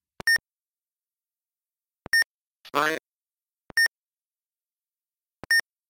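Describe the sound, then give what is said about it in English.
Four short, bright electronic beeps from a German timer being started and stopped, roughly evenly spaced, each preceded by a faint click of its poorly contacting button being pressed, with a brief voice sound between the second and third beeps. “With the German one, if you do the same thing, you get just a beep. And if you press the button, well, yeah, you have that problem because the contact on this button isn't so awesome.”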